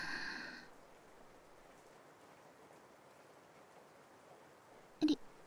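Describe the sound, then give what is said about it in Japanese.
A soft, strained exhale of breath at the very start, quiet, then near silence until a brief sharp catch of breath near the end. No talking. “力んでる時の吐息、エッチすぎ。”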